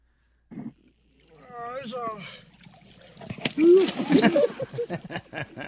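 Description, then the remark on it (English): Slowed-down, deep-pitched thuds of a caught gar banging against a boat hull, mixed with sloshing, splashing water and drawn-out, warbling slowed voices of what appear to be Japanese tourists, growing louder and busier toward the end. “Slow motion, fish banging into the boat.”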